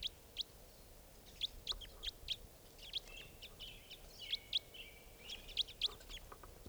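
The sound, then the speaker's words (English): Repeated sharp, high-pitched bird calls of call types 4 and 5 ring out in a steady series, each a brief bright note, clear over a faint background hum with no talking, as a bird flies up to another tree. “That was the new type 5. That's type 4 number 2. Flying up to another tree there.”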